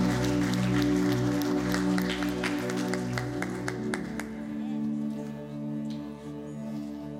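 An audience claps their hands in praise during a morning worship service, a dense burst of applause over sustained keyboard chords, the clapping thinning out after about four seconds while the music carries on.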